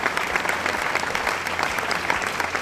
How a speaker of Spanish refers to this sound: Y el restaurante de Mauro Colagreco salió número 1. Pero eso es muy difícil. Y sí. ¡Aplausos, por favor!